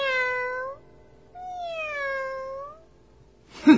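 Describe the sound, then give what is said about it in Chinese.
A cat at a circus show meows twice, clear: a short meow, a brief pause, then a longer, drawn-out one, followed by a quick muffled bump at the very end. “接着，不论别人说什么，小猫它就只是叫着： 喵，喵。”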